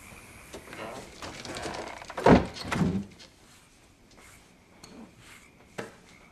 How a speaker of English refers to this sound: Come in and shut the door.